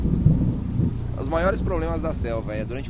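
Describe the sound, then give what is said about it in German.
A dense roar of heavy rain with low rumbling thunder in a rainforest storm, the rain driven by gusts of wind, loud and steady throughout; a person's voice begins talking over the downpour about halfway through. “Windböen treiben eine Regenwand vor sich her. Plötzlich ist die Sicht gleich null. Es gießt wie aus Kübeln.”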